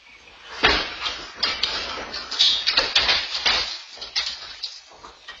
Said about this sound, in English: I wanted to take you back to the sound of space debris falling on a house in Naples, Florida.